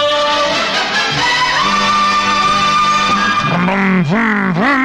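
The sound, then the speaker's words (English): A loud, continuous toy Aston Martin racing car engine whine holds a steady buzzing pitch, then swoops down and back up in quick revving sweeps near the end, unbroken. “I'm playing with my little racing car. Here I got a toy Aston Martin from the people who are plugging the Canadian Grand Prix on the 27th of September”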